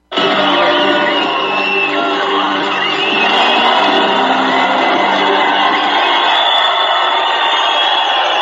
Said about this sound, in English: You can hardly hear anything. You can't hear yourself think. The crowd is so loud.